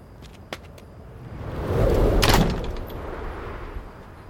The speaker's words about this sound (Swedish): Nyfikenheten tog över och jag öppnade försiktigt den knarrande grinden och steg in på tomten.